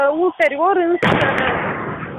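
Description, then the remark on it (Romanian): A voice is heard briefly, then a single sharp warning gunshot rings out outside the presidency building on Great National Assembly Square, where protesters have gathered, followed by a loud, lingering rush of echo and crowd noise. “Acum a fost tras un foc de avertizare.”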